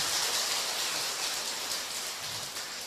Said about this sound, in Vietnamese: Hiện diện trên pháp tòa trước mặt toàn thể đại chúng là Đại Đức Giảng Sư Thích Thiền Xuân, cho một tràng vỗ tay.